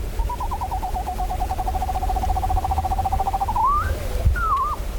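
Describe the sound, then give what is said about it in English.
A small screech owl gives a long, steady, rapid trill on one pitch for several seconds, followed by a couple of short rising and falling whinny-like calls, over a low background rumble. “It's our smallest owl and a common resident of Fayetteville, like us 70,000 people.”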